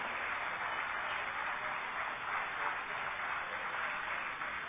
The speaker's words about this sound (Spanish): un aplauso para los dos